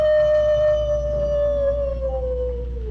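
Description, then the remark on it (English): A single long coyote howl holds a steady, clear pitch for about three seconds, drifting slightly lower toward the end. It is loud, with no other sounds around it. “And when the coyote wanted to say he was sorry, "woo."”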